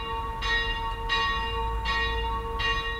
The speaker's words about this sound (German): Seit 60 Jahren hängen oben in der Glockenstube insgesamt 6 Glocken. Eine davon stammt noch aus der alten Vorgängerkirche und wurde vor genau 150 Jahren gegossen. Heute erklingt sie immer zur Wandlung während der Heiligen Messe.